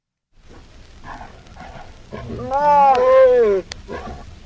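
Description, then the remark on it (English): Mating tigers: low rumbling growls build into a loud, drawn-out snarling yowl lasting about a second, then cut off sharply, followed by softer grunting breaths. “The title of this this file is Tiger Copulation.”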